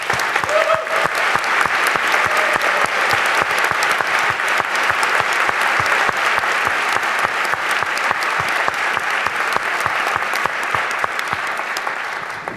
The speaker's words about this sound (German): Und im Namen des Trägerkreises möchte ich mich ganz, ganz herzlich bedanken bei den 3 und bitte auch um einen Applaus.